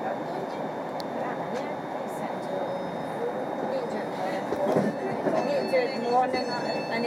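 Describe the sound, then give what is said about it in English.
A steady, rumbling clatter of a train bound for Airdrie running along the rails toward Shettleston, heard from inside a carriage, with a faint high whine and muffled voices underneath. “This train is for Airdrie. The next stop is Garrow Hill.”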